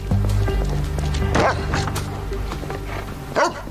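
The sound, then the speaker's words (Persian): A dog huffs and snuffles, sniffing out a scent, with a couple of short, sharp bark-like bursts breaking through amid a steady low background hum and faint shuffling movement. “سگه چه شده؟ داره یه بویی رو حس میکنه.”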